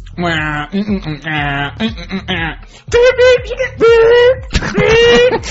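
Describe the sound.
A man vocally imitates subway train noise: low, rhythmic voiced rumbling bursts, then three louder, sustained high-pitched whining tones with short breaks between them, like a train accelerating.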